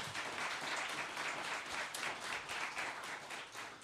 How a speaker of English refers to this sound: Let's have a round of applause for our panelists.